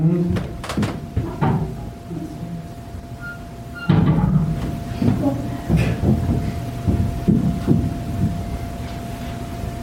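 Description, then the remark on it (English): Heavy, muffled footsteps of someone walking upstairs in a building, heard down in the basement, thud irregularly, a dull low-pitched pounding that rises and falls in loudness, with a steady faint hum running underneath throughout. “But it almost sounds like somebody's stomping. It was walking.”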